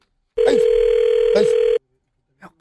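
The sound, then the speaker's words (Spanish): A phone line rings as a radio show calls someone back: a single loud, steady ringback tone holds one pitch for about a second and a half, with faint voice-like sounds over it, then a brief faint sound after it stops. “Vamos a marcarle atrás.”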